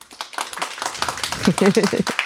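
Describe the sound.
A small audience at a live recording on a stage applauds a guest with steady, dense clapping throughout, and a voice briefly speaks or calls out over the applause toward the end.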